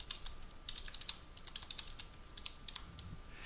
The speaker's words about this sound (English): I'm typing that in as well into the chat box.